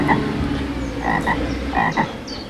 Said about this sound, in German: Empfehlung für kleine Menschen ist durchaus zum Baden geeignet, sofern man sich nicht von den Fröschen gestört fühlt hier.